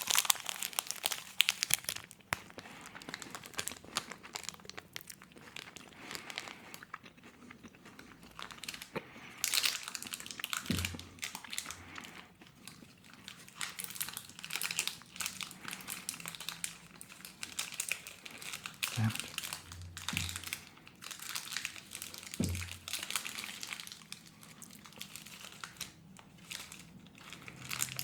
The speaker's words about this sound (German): Ich esse den Schokoriegel jetzt doch nochmal auf. Einfach nur, weil es so schön war. Jetzt muss ich ein bisschen näher ans Knisterpapier ran, sonst saue ich mir hier alles ein.